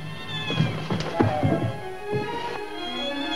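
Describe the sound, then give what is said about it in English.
A cat, the pet Puff Puff, meows a few times, seemingly from down by the garage, its tonal cries fairly soft, mixed with scattered low knocks and taps against a steady background hum. “Well, if I'm not doing it, and you're not doing it, it must be a real cat.”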